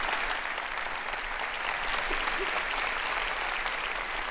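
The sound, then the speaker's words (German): An audience applauds steadily, a dense wash of many hands clapping at an even loudness throughout, with no voices standing out above it. “Ich denke, man beendet ihn mit einem tosenden Applaus. Das hat das Publikum schon getan.”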